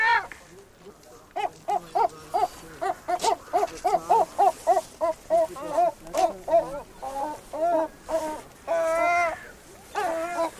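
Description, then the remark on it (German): Three Travemünde gulls, sitting on a stone at the shore of the Trave, call in quick runs of short, sharp, nasal yelps, then break into longer wavering wails near the end; loud and with no voices over them. “Meine Freunde, meine persönlichen, die Travemünder Möwen.”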